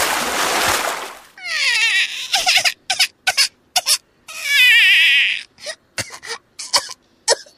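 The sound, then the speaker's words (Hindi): A loud, rushing splash of water, filled in a bucket at a neighbour's house and thrown all at once through the opened door of a house, lasts about a second, followed by a series of high-pitched wavering yelps and sputtering cries. “पोंगाराम चाचा ने झटपट पड़ोस के घर से एक बाल्टी में पानी भरा और गीता के घर का दरवाजा खोल के सारा पानी अंदर फेंक दिया।”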